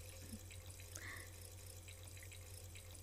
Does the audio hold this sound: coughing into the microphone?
no